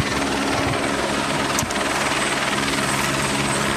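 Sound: helicopter hovering nearby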